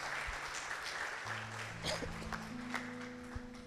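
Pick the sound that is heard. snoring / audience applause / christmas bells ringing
audience applause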